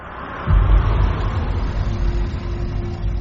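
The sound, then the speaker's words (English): A small dark grey MG sports car's engine rumbles, swelling in as it pulls up to the gates inside the Harwell Nuclear Energy Research Centre, then idling with a steady low drone and faint mechanical whine. “A small dark grey MG sports car pulls up to the gates inside the Harwell Nuclear Energy Research Centre.”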